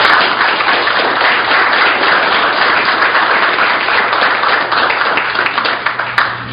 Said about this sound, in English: Congratulations, everybody, on your election to office. Let's give everybody a round of applause.